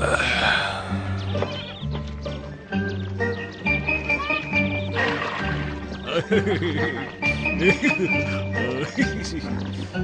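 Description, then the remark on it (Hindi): A horse being urged to go on whinnies and neighs several times over a dense, steady musical backing with low droning tones; any hoofbeats are buried in the mix. “चल मेरे घोड़े, बहुत चल।”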